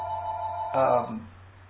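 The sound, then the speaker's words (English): A telephone's steady electronic ring tone sounds at moderate volume, then cuts off abruptly as the phone is shut off, followed by a brief muffled burst of voice or handling noise. “excuse me a second, I'm going to shut the phone off.”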